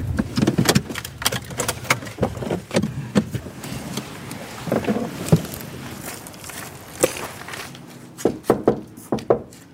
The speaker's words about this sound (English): While I was knocking on the door,